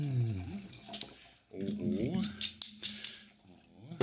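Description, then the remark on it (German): Rosé wine, the first of a tasting, splashes and gurgles as it is poured from a screw-cap bottle into a glass, the burbling tone climbing in pitch as the glass fills, with a voice murmuring faintly alongside. “Ich lasse das jetzt einmal ins Glas gleiten.”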